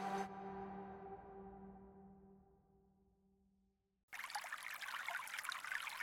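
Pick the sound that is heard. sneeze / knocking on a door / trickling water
trickling water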